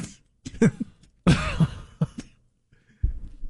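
Heavy, hacking coughs: several harsh bursts come in irregular fits, one long racking cough in the middle, with a few seconds of quiet before a final cough.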